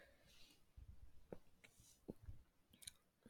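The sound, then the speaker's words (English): Scissors snipping through cloth in a few soft, crunchy cuts spaced irregularly apart, very quiet, with faint rustling between snips and no voices. “The scissors make their final cut, and the idea of shame slides off of you as I gently pull the scraps of cloth off of you.”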